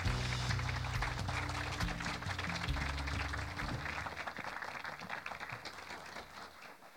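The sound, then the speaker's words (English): Sustained audience applause for young performers after a stage production, a dense crackle of many hands clapping at steady volume for several seconds, with a low sustained musical tone humming underneath that fades toward the end. “Can we just give them a round of applause again?”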